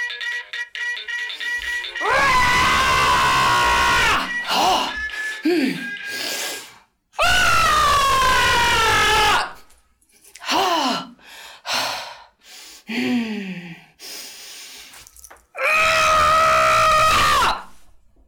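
A person screams loudly three times in long, sustained bursts, with sharp gasps and breathy yelps in the short pauses between them.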